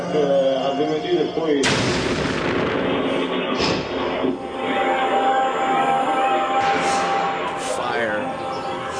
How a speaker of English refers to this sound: I was interviewing a Pepsi seller in the square in Najaf, next to the Imam Ali Shrine. During Friday prayers, and suddenly an explosion went off.